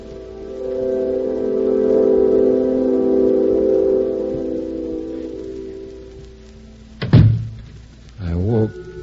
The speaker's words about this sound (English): The sound of the door closing.